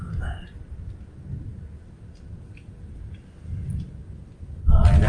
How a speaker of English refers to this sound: Space with thunder all around us